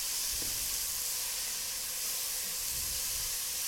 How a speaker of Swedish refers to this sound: Nu åker den sköljda purjolöken i. Och det gör ju ingenting att den är lite blöt. För det kommer liksom stekas bort sen.